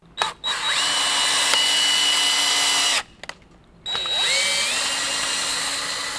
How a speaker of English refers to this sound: Drilling for core samples and bales of hay is becoming a tradition at county fairs across Kentucky.